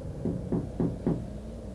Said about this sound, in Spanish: Tocaron a la puerta de forma extraña. Fue casi como si se hubieran arrepentido y escuché pasos que se alejaban.